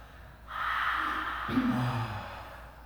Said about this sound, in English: Everyone open, yawn, clear that fifth chakra.